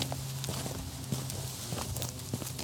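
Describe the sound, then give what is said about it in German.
Footsteps walk at an even pace on a hard surface along the path toward a church entrance a few meters away, several steps in a row with a steady rhythm, set against a low background hum. “Dann gehen wir mal die paar Schritte bis vor zum Eingang ins Kirchengebäude.”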